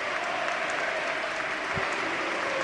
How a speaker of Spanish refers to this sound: Y se retiran con esta ovación Hugo Duro, que ha marcado su gol número 12, y también Javi Guerra.